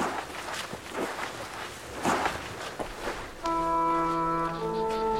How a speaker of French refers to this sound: Après de longues heures de marche...